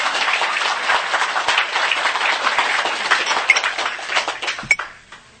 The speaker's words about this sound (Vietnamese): Cho tràng pháo tay.